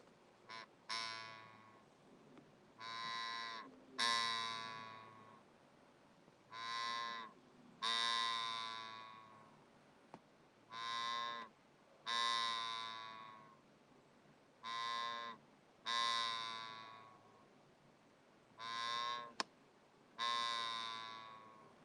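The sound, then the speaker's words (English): A giant office chair, less than two days into use, creaks as the sitter moves: about ten drawn-out, pitched groaning squeals, each lasting around a second with brief pauses between, fairly loud with no talking. “And not even 2 days into using it, the chair is already doing this when I move.”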